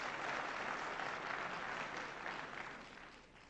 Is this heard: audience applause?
yes